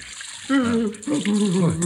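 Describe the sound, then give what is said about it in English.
Water from a vase of flowers splashes and trickles steadily as it is poured out, a soft continuous wash of liquid, while a voice murmurs and groans over it. “Here, this water from my vase of flowers.”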